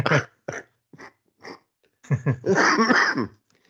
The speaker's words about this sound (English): cough, still there.